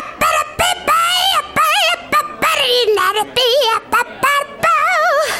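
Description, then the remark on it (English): A person vocally imitates an angry squawking bird during a scat battle, a rapid series of loud, warbling, nasal cries with brief gaps between them, with no other sounds. “An angry bird. Squawk, squawk.”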